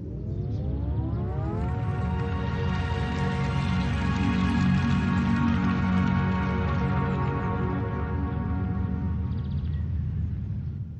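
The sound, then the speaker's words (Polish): A Fiat 500 electric car's melodic warning sound: a bright, rising synthetic tone that settles into a steady, chord-like hum, playing on its own, fairly loud for about eleven seconds. “To jedyny samochód, którego silnik potrafi zagrać melodię.”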